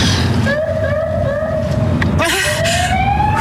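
A police car siren wails with a rising, sweeping tone over loud, continuous road rumble, with a brief warbling break in the middle before the wail climbs again, loud, as a police officer pulls up behind a car.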